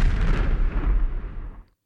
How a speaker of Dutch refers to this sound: En soms volgden harde knallen die tot diep in mijn grond trilden.